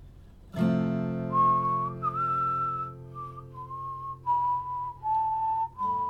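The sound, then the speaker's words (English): A person whistles a wavering, breathy tune of several held notes over a steady droning background tone, moderately loud, with short breaks between phrases. “I did a whistle.”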